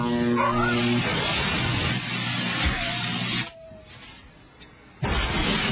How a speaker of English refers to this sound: The ad tagline, charged with adrenaline, ends when a dog is shocked after urinating on the new Dodge Nitro SUV.